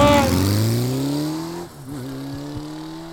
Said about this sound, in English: Today is the day in 1885, when a guy named Gottlieb, my German grandfather's name was Gottlieb, when Gottlieb Daimler, D-I-A-M-L-E-R, invented what? The motorcycle. Let's go!